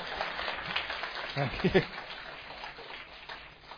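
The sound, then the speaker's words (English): An audience applauds the speaker's assistant after a demonstration of keeping a glass of water still, with a dense, steady patter of many hands clapping for a few seconds. A brief voice rises in the middle before the clapping gradually thins out. “A big round of applause for my assistant.”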